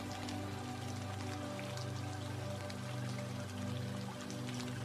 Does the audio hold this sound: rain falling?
yes